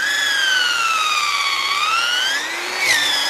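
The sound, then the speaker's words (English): A power drill whines steadily as it bores about 2 inches into a tree at a slight downward angle to tap it for sap, its loud, high motor tone slowly sagging and then climbing again, with a brief dip in pitch near the end. No one speaks. “We drill in about 2 inches with this drill, okay, which is right to there.”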